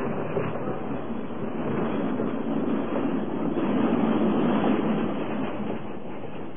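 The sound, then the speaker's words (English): A train pulls out of the station, a steady rolling rumble and rattle that holds evenly for several seconds with no voices. “Well, I had to catch this little bag that Griff Miller tossed to me, Lou, just as the train was pulling out.”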